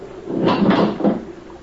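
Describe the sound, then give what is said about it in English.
A bedroom door onto a corridor is opened during a storm, making a short run of three wooden creaks and clunks in quick succession, with no voices present. “As I opened my door, I heard a distant whistle.”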